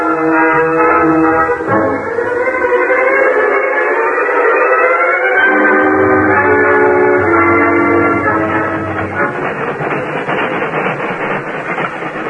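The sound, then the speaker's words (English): A loud, sustained steam whistle sounds, holding its chord-like tone, while the rhythmic chugging and clatter of a train of only an engine and a caboose moving westward on new rails builds underneath and takes over toward the end. “A train composed only of an engine and a caboose that moved westward on new rails.”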